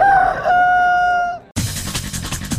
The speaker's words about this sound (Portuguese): Canta Galo.